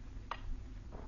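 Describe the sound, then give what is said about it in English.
A clock ticks softly, two faint clicks roughly three-quarters of a second apart, over a low background hum with no one speaking. “You make a pretense of being quite busy, but your eyes keep wandering to the clock.”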